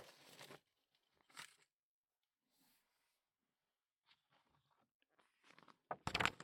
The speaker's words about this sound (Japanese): 鎖部分をパチパチ切ってます。シュレッダーがないとこうやって細かく切らなきゃいけないから大変ですよね。